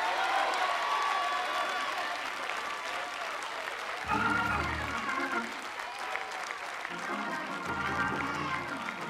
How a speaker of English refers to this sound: I want you to clap a little louder.